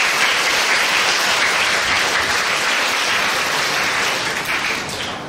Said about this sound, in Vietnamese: Sung sướng quá, cho một tràng pháo tay.